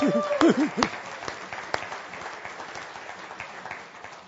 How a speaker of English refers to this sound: Okay, give my wife a round of applause on that one.